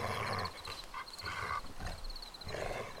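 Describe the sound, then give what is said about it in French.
A small animal hidden in a bush growls low and rough in a few bursts, with a faint high chirping or ringing pattern running through the background. “Un petit grognement lui répond.”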